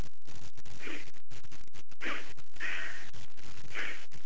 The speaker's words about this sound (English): I've been sniffing pepper, and I'm enjoying that feeling that one gets when one starts sniffing at pepper. And actually, I'm taking a pinch of it now.